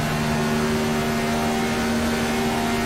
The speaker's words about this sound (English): there's a car exiting the pits. Heads up.